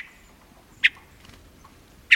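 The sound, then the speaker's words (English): A hermit thrush in a mountain forest in summer gives two short, sharp call notes about a second apart, each clear against a quiet, faintly hissing forest background. “Hermit thrushes, like other songbirds, broadcast a variety of calls.”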